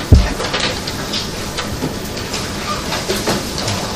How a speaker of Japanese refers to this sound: ちょっとここで2分ほど換気をしたいと思いますので、ちょっと寒いと思いますが、窓開けていただきまして、2分経ったら お手数ですけど、ちょっとドアの方、窓の方を閉めていただければと思います。